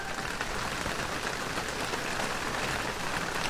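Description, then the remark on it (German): Heavy rain mixed with hail pours down in a dense, steady roar of pattering impacts, constant and fairly loud throughout, with no voices; the weather during the first mountain stage of the Tour de France cycling race. “Hagel und starker Regen.”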